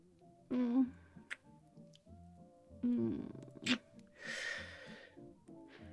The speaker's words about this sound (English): I'm going to kiss you without crying or snotting or anything. I'm just going to... I love you. I didn't say I wasn't going to sniff.